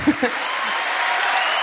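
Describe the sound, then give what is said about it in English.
A church crowd claps steadily, giving a round of applause to Jesus: a dense wash of many hands, with a couple of brief low thumps or voice fragments at the very start before the applause carries on evenly. “So can we give a round of applause to Jesus for the body?”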